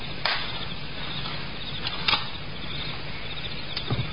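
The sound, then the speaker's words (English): A garden gate closes softly with a muted click at night, followed by a few faint, unhurried footsteps of a man and a woman walking away, over steady background hiss. No voices. “A garden gate shut softly, and footsteps, a man and a woman, fade away into the sounds of the night.”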